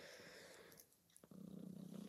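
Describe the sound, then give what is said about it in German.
A male domestic cat lying on a person's lap purring, a steady rumbling vibration that swells loudly in the second half after some soft rustling, with no voices present. “Ja, was jetzt vielleicht im Hintergrund hörst, ist mein Kater, der hat sich auf meinen Schoß gelegt und schnurrt jetzt so ganz laut.”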